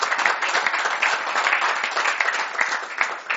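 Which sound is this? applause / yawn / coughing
applause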